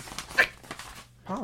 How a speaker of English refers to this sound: I think your dog wants to go outside. Come on, Polly. You want to go out? That's my dog. She loves to go outside in any kind of weather.